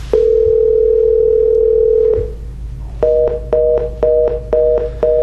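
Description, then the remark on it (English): A landline dial tone hums steadily for about two seconds, then stops, followed by a quick, evenly spaced run of seven touch-tone key beeps as a phone number is dialed, clear, with no voices. “You don't have to dial the one.”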